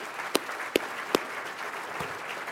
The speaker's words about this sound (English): Ladies and gentlemen, how about a big round of applause for all of our Fast Growth finalists?